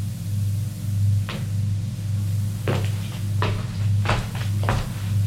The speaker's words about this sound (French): Et se retourne vers la porte. La porte est fermée à clé. Il essaie d'ouvrir. Elle est bien fermée.